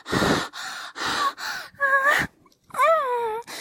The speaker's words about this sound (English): are breathing way too hard, but we can't help it.